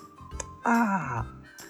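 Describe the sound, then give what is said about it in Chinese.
A voice imitates a baby crocodile's big, wet kiss for its father: one loud, drawn-out smooching sound that slides downward in pitch, with soft breathy noises just before and after. “鳄鱼宝宝可是会给他爸爸一个爽爽的潮潮的吻哦，像这样。”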